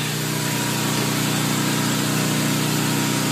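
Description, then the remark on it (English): A golf cart with big tires, not four-wheel drive, hums steadily at an even pitch, loud and continuous, with a faint whine riding above a low drone as it rolls along through a front yard. “This will be our trusty steed today, the golf cart with the big old tires on it.”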